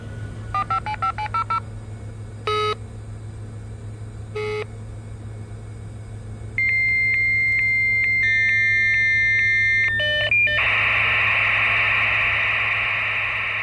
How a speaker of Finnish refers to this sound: Hauskin oli se ensimmäisten modeemien valintaääni, kaipaan sitä joskus. Se oli niin konkreettinen merkki siitä, että oli juuri siirtymässä maailmanlaajuiseen verkkoon.